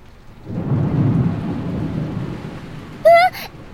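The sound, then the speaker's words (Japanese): A deep, rumbling roll of thunder swells and lingers over steady rain from a passing shower, loud, followed near the end by a brief bright chirping sound. “すごい雷の音。”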